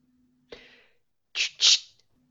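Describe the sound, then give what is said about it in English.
A voice imitates clicking a pen in and out at a staff meeting: a breathy burst of air, then a pause and two sharp, hissy mouth clicks in quick succession, alone. “I'm clicking my pen on in and out obnoxiously at the staff meeting.”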